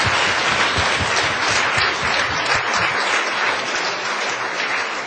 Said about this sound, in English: Thank you all so much. Can we have one last final round of applause for our fabulous panel?